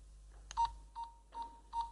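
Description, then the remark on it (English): A game timer sounds four short, evenly spaced electronic beeps at a steady mid pitch, moderately loud, preceded by a faint click, with no one talking. “Please start the buzzer.”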